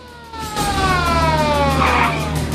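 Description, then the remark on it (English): Sirens of police cars swarming the streets wail loudly and steadily, their tone gliding downward over a low engine rumble, with no voices. “The streets swarming with cop cars behind which armed cops take cover.”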